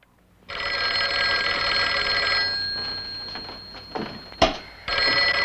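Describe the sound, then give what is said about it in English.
A telephone bell rings loud, one long metallic ring that fades out, followed by a brief clunk and then the start of another ring, from the film Who Killed Teddy Bear, where a discotheque DJ gets anonymous phone calls. “Who Killed Teddy Bear stars Juliette Prowse as a DJ in a discotheque who gets anonymous sexual phone calls by a man whose fantasy life is built around her.”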